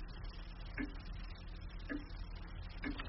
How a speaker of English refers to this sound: Nice clock, isn't it? You weren't looking at the time, were you? If I were you, that's a habit I try and break. It's Swiss, with an extra loud movement. When I was appointed here, they said with every tick of its movement, we'd make money.